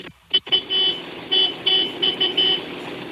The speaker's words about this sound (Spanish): Qué bien. ¿Y en qué momento un tractor toca el claxon?